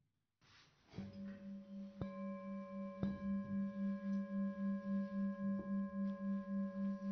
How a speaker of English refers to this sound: Okay. All that just from the sound of the bell. So here's the bell again.